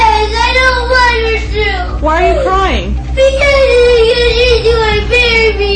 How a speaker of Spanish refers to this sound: La niña se va. El niño se queda llorando.